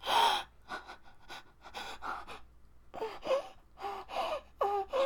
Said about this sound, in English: I hear your breathing getting ragged from. Oh, how turned on you are.